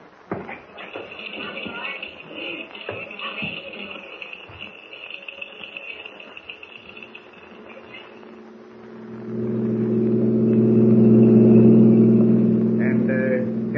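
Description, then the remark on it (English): A car engine rumbles along with some shuffling noise, then swells into a loud, steady revving drone as the car pulls away, its low hum dominating the final seconds. “It'll take us an hour to get there. I'm ready. We'll take my car.”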